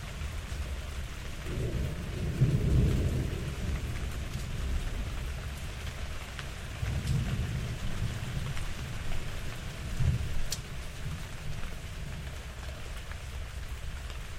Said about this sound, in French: Et devant moi, les feuilles d'olivier, les feuilles de figuier plutôt, se remuent sous la brise et la pluie.